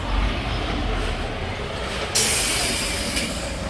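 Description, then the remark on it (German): A steady rumble of a train gives way, about halfway through, to a sudden loud hiss as steam is let off, the bright hissing continuing to the end with no one speaking. “Weil der lässt natürlich richtig Dampf abgeben.”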